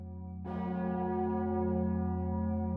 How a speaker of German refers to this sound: Glocken läuten die Weihnacht ein.